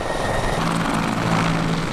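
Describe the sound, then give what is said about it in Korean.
A helicopter's engine drones steadily with the dense thrum of spinning rotor blades during helicopter training for rescue dogs, loud, filling the whole two seconds with a constant mechanical roar and a low steady hum underneath. “게다가 구조견들은 헬리콥터 훈련도 받습니다.”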